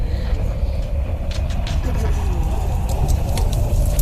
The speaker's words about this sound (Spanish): ¿Qué es esto? ¿Lo sabéis o no lo sabéis? Fuego, el crepitar del fuego.